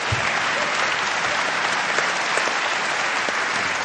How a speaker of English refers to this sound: That's right, if you're going to applaud at this conference, that would be an appropriate place to applaud.